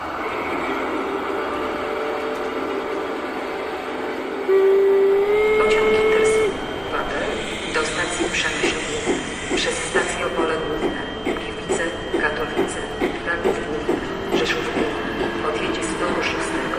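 A train rumbles along steadily, sounds a long whistle blast early on, then settles into a rapid, rhythmic clatter of wheels over the rail joints, fairly loud.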